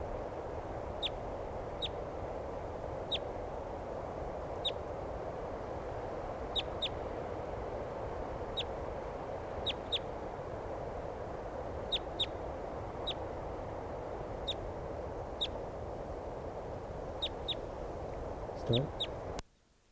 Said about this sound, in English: Okay, and here's another wild bird. Maybe the same one, I'm not sure.